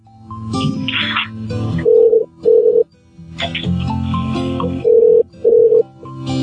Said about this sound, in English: Can you hear the phone ringing? Over there, I mean? Huh? Can you hear the phone ringing in electronics?